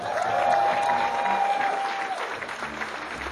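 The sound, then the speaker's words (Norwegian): A crowd applauds steadily and fairly loudly throughout, dense clapping filling the whole stretch, with a sustained whistle-like tone riding over it for the first two seconds. “Ekstra applaus”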